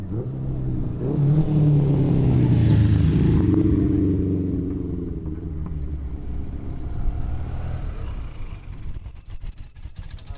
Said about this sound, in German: Uralte Töpfe, die alte Gotthardpassstrasse Tremola ob sie fahren, und Wespi, also Vespas. Antike Vespas an einem Rennen von alten Motorfahrzeugen, die an diesem windigen Julitag stattfindet.